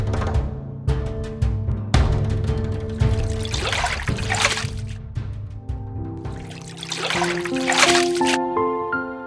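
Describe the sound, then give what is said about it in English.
Water is drawn from a well and poured for camels to drink, splashing in two long bursts as if tipped from a bucket, with lighter trickling between them, all over a soft, sustained musical background. “Even when she felt tired, she kept drawing water from the well until all the camels had drunk their fill.”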